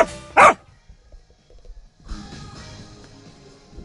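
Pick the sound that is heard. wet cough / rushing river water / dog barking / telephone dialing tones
dog barking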